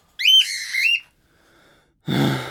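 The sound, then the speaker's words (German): A bird chirps and whistles in a bright, wavering warble lasting under a second, then after a short pause gives a brief, harsher, raspy burst, with no talking. “Zwitschern! Immer nur zwitschern! So kann sich ja keiner konzentrieren!”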